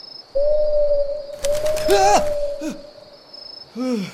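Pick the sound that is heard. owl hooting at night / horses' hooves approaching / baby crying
owl hooting at night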